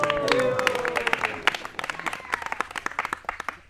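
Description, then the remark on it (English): Several people clap their hands in quick, uneven bursts, with a few voices murmuring at the start before the clapping carries on alone, sharp and moderately loud. “And all the Sakhi were clapping like this.”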